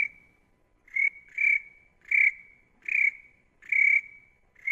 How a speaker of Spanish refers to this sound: El grillo, el grillo.